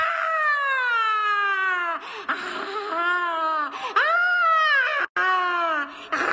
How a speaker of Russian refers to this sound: Раздался неистовый крик и плеск. Марганда сорвалась с узкой тропинки вниз, прямо в Серное озеро, и скрылась в его кипящих, пылающих волнах.